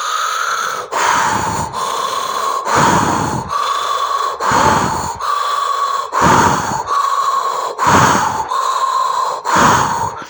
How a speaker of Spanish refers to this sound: Ahora vas a abrir tu boca y vas a respirar por la boca, llenando tu estómago de aire, y vas a expulsar el aire por tu boca de manera vigorosa. Vas a respirar y exhalar vigorosamente.